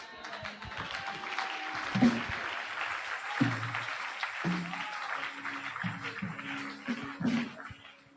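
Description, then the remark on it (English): A crowd applauds steadily for several seconds, a dense wash of clapping from many hands, with a few voices and low tones faintly mixed underneath; people standing and applauding to celebrate God for the life of a mother. “As we applaud and celebrate God for the life of my mother, the spiritual bulldozer.”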